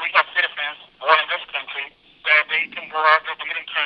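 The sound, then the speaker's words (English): A man talks from inside a razor wire detention camp over a tinny, band-limited telephone line, his voice thin and narrow with no low bass or high sparkle, speaking in steady phrases with brief pauses. “… speaks on a tinny phone line from inside the razor wire detention camp”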